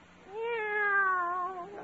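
A single drawn-out meow from a cat named Minerva, steady and clear, lasting over a second with a slightly falling pitch, heard on its own with no talking.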